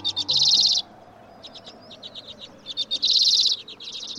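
Common redpoll, a tiny finch, calling: bursts of rapid, buzzy trills alternate with quick, dry chattering notes, clear, with no voices present.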